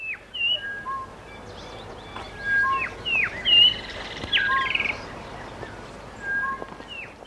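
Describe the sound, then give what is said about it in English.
A dense chorus of rainforest birds: overlapping whistles, chirps and harsh screeching calls from several directions, some loud, others faint, over a steady background hum of cicadas. “The screech of bird life.”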